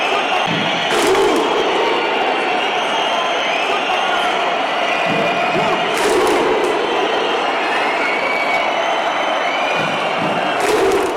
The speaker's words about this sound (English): Iceland's footballing grit wasn't the only thing from 2 years ago to reappear in Moscow, the famous so-called Viking clap also making a comeback.